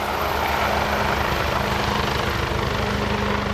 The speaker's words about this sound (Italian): Cosa sta facendo adesso l'elicottero? La prima fase è la fase di ricerca, quindi è importante per noi settorializzare il lago, passare questi settori per identificare la persona dispersa.